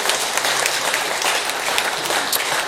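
An audience applauds steadily, a dense wash of many hands clapping at once, sustained and fairly loud throughout with no voices standing out.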